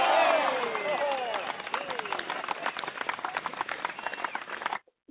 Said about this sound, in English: He's not here right now, so let's give him a round of applause for his birthday.